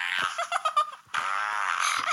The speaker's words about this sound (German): Der andere Gewinn ist hier das Lach-Soundbuch Pups lustige Witze.